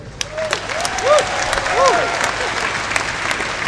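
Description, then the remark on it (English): Steady audience applause welcoming Paul Noon, General Secretary of the Prospect union, to speak at an event, a dense wash of many hands clapping for the whole stretch, with a few brief rising-and-falling vocal whoops rising above it. “Please give him a round of applause as he explains what this will mean for his members.”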